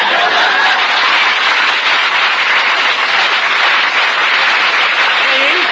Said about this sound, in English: Please. Don't applaud.